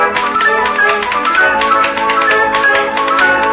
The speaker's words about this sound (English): You're cheating. You're playing on the ashtray. That really doesn't go.